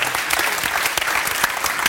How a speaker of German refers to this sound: Der Applaus ist doch schön.